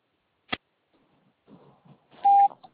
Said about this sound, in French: Je ne suis pas disponible pour le moment, mais vous pouvez me laisser un message après le bip sonore.